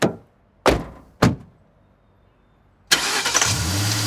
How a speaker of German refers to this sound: Mit erhöhtem Tempo fahren sie los durch die Stadt zum Elysium.